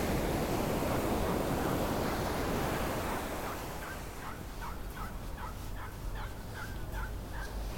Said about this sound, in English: Oh, this guy's hooked a seagull. Fisherman hooked a seagull. Just fighting to undo the rope.